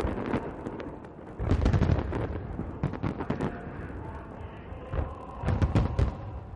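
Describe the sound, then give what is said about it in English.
A huge fireworks display at a celebration in Pyongyang, the capital of North Korea, with a string of booming bursts at irregular intervals, some followed by crackling, against a steady rumbling background. “The celebration began Monday with a huge show of fireworks in the capital, Pyongyang.”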